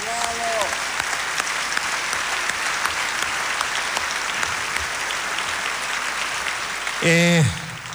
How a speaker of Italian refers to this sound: Un grande applauso.